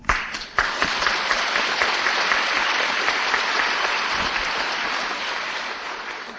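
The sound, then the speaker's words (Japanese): Sustained applause from a large audience welcoming Hitori Saito as the final speaker at a lecture event, a dense steady wash of clapping that starts abruptly, stays loud and even throughout, and fades only slightly toward the end. “大きな拍手でお迎えください。”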